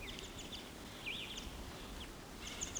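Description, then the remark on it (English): A male wild bird, perched at the top of a dead pine, gives a scattering of short, high-pitched calls, including one rising-and-falling whistled note, over a steady low background rumble. No one speaks. “That's him giving calls.”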